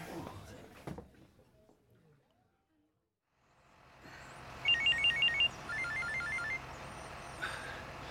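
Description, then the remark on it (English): A mobile phone rings with an incoming call, two short bursts of rapid, warbling electronic trills, fairly loud, over a steady low background rumble, after a couple of knocks and clatters. “I've been calling you for ages. Why did you not pick up? I didn't hear the phone.”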